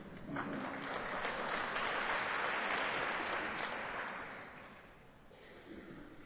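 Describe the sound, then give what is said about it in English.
A crowd applauds after a speaker wishes them a happy All Souls Day on November 4th, with dense, steady clapping that swells to full strength over the first few seconds, holds, then eases off toward the end without dying out completely. “Don't have to applaud.”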